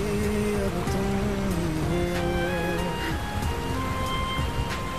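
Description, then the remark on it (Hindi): Steady, dense rain hisses evenly throughout, with a soft melodic line, like fading music or humming, drifting over the downpour. “अरे यहाँ बारिश में क्यों खड़ी हो, ठंड लग जाएगी, चलो अंदर आओ।”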